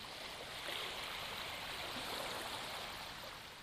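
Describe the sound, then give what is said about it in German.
Steady rushing sea water fills the scene, a broad, continuous wash of waves running up a beach and slowly drawing back, fairly constant in level with gentle swells and no voices. “Genieß diese Naturgeräusche.”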